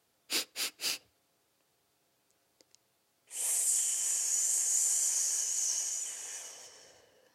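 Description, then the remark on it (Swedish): Breathing exercise: three quick sniffing inhales, a held pause of about two seconds, then a long, steady airy exhale lasting roughly four seconds before fading out. No talking. “För att sedan hissa ut det. Ungefär 5 sekunder. Och när jag hissar ut det så brukar jag tänka att det är en ballong som blåses ut.”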